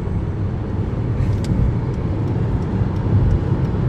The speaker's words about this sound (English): The person behind me is riding my ass, too. And every other car behind this car is riding their ass because... It's busy on the highway.